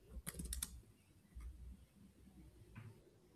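A quick burst of faint computer keyboard typing, several soft clicks in rapid succession, followed by a couple of isolated taps against a quiet, hushed background.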